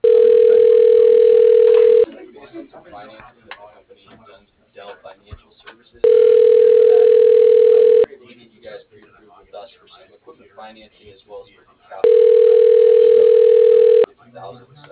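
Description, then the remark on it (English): A telephone call to the firm Bearcat Builders rings on the line: three loud, steady two-second tones at a low-mid pitch, each followed by about four seconds of faint, muffled line noise, heard through a narrow phone-like sound. “Just wanted to reach out with a quick phone call as well as introduce myself to you guys.”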